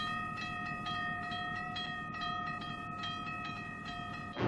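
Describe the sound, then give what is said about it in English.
A train coming in the distance toward a railroad crossing rumbles along with a steady, sustained tonal whine and a regular pattern of metallic clacks, a continuous rail sound with no voices, holding a fairly even loudness throughout. “She stops at a railroad crossing, looks to her left, and sees the train coming in the distance.”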